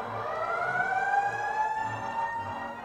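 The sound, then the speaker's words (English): A police siren effect from a movie sound effects machine and musical scoring device wails in one long, continuous tone that climbs slowly in pitch, holding steady loudness throughout, with a low intermittent rumble pulsing underneath and no talking. “Birds, and a doorbell, along with the police.”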